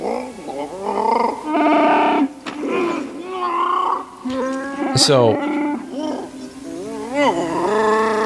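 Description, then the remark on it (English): A man's voice imitates the Wookiee growls and roars of Chewie from Star Wars, speaking what he calls the Wookiee language: a string of warbling, gravelly howls rising and falling in pitch, loud and continuous for several seconds, ending with a brief spoken word. “I said both speaking Shiruk? Yeah. Is that the name of the Wookiee language?”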